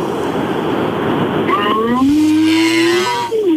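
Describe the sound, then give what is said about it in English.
A caller phoning in to Rock FM imitates a cow's moo with one drawn-out voiced tone that rises, holds steady and then trails off, after a stretch of steady hissing line noise. “What's your moo going to sound like?”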